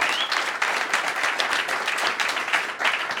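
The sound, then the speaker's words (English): A crowd applauds two guests who came from New York, many hands clapping in a dense, even wash of sound with no voices over it, holding at a fairly loud level throughout. “So, first of all, just again, a quick round of applause for”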